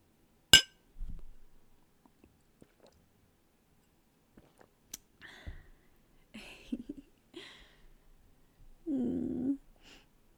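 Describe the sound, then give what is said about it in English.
Glasses clink in a toast: a sharp glass clink rings out near the start, then a second clink a few seconds later, followed by soft sips, rustles and a low murmur. “We should cheers to something.”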